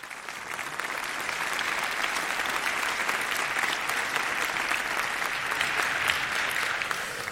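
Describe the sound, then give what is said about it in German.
Steady applause from an audience welcoming the speakers before a talk fills the whole stretch, a dense, even patter of many hands clapping at once, moderately loud and without any voices standing out. “Also gebt ihm einen großartigen Applaus und viel Spaß bei dem Talk.”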